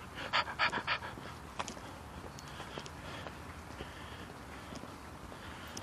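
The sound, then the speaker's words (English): A chubby little beagle pants in a quick burst of four or five breathy huffs, then fades into faint scattered ticks and footsteps over a steady background hiss. “Chubby beagle.”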